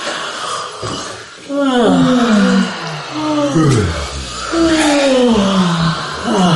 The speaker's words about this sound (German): Wir gähnen als erstes dreimal hintereinander. Und ein zweites Mal gähnen. Und die Gelenke mitgähnen lassen, noch einmal gähnen.